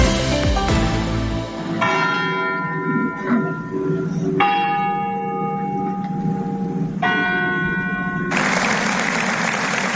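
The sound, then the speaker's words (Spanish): The large church bells of the Basilica Arciprestal in Morella ring out in repeated resonant strikes, their long tones overlapping, then a crowd breaks into sustained applause at the end of a minute of silence while the bells still sound. “Son las campanas de la Basílica Arciprestal de Morella y los aplausos al final del desgarrador minuto de silencio”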